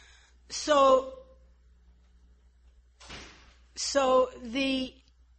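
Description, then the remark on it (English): A door creaks on its hinges, and a brief rustling thud follows as it shuts. Then a second longer, squeaky creak comes, fairly loud against a quiet background. “You have to close that door because the echo feedback is not so good.”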